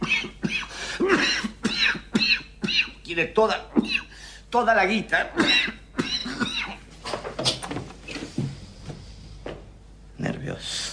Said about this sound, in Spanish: La tos. Es nerviosa. A mí me pasaba de pibe.